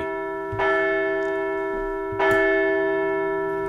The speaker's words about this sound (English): The Phillies took game two of a four-game series 10-3, so let's give that good old bell a ring today.